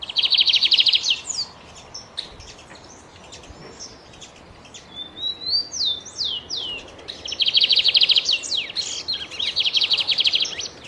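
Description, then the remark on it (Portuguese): A lined seedeater sings freely in the wild, in nature: a bright, high-pitched song, with rapid buzzy trills at the start and end and scattered sharp whistled notes between, clear over a soft background hiss. “Vamos começar com o bigodinho.”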